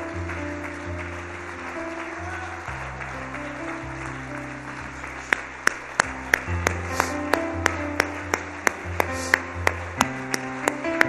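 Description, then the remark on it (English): An audience claps along to the Lord for His Word in a steady rhythm, the sharp hand claps starting partway through and sounding over sustained keyboard or organ chords. No one speaks. “Would you clap your hands to the Lord with all of your might?”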